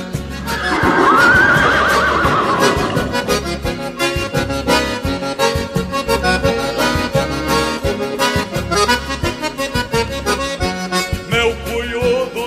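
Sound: stallion neighing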